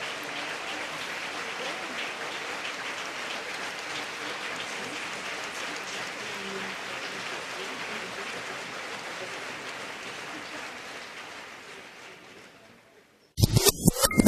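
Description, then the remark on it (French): Sustained applause from a large crowd of delegates at the 2009 SCFP (CUPE) national convention, a dense steady patter of many hands clapping for about thirteen seconds before fading out, followed by a brief abrupt burst of other sound. “les délégués, on va applaudir les mots de sagesse de Michel Rouleau”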